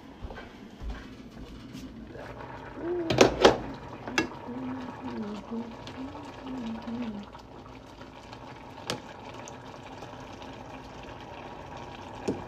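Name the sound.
water boiling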